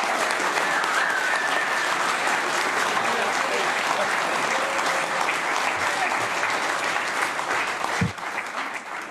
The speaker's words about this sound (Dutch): Ja, daar hoort inderdaad een daverend applaus bij. En zelfs wel een klein beetje toegejoel of gejuich in positieve zin nu.